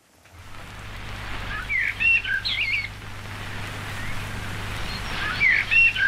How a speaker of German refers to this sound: Und die Amsel, diesmal von 1910, da hören wir auch nochmal rein.